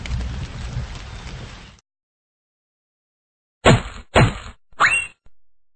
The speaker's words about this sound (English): Oh no! It's raining! It's raining! Oh no! It's raining!